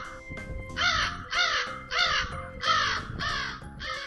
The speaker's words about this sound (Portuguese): E o corvo, então? Preto feito carvão.